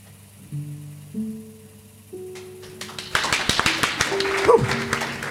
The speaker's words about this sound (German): Das war knapp. Da hätte ich fast falsch geklatscht.